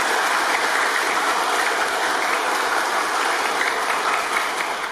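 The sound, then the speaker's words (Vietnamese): A crowd at a gathering of blind Buddhists applauds steadily and loudly in thanks to donors, a dense wash of many hands clapping that holds for several seconds without pause and with no voices over it. “Xin một tràng pháo tay nữa.”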